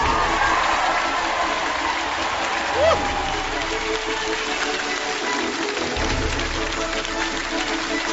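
Sustained audience applause welcoming Tongji University president Chen Jie, a dense, even wash of many hands clapping that holds at steady loudness for about eight seconds with no pauses.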